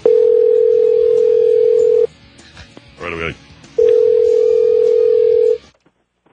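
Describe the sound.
A loud, steady telephone dial tone hums for about two seconds, cuts out while a voice briefly speaks, then returns for another two seconds before stopping abruptly, as the Skippy and Frank Show on 1490 AM in Cloverdale dials a number for a prank call.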